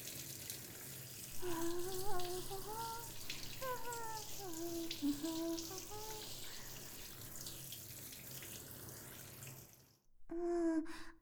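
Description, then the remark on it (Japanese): A steady, hissing rush of running water pours over a body, rinsing off soap foam, with a soft voice humming over it; the water cuts out abruptly near the end. “泡きれいに流れたかな。”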